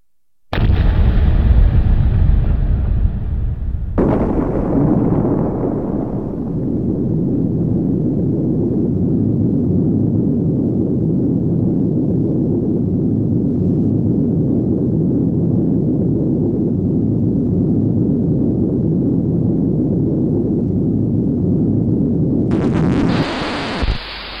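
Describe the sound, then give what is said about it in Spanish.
The 20-kiloton atomic bomb explosion at Hiroshima, detonating 43 seconds after being dropped from 10,000 metres: a sudden, very loud blast that swells into a deep, continuous rumbling roar lasting over twenty seconds, with a brief hissing burst right at the end. No voices. “Transcurridos 43 segundos, cuando el avión se encontraba a 15 kilómetros del punto del impacto, la bomba hizo explosión.”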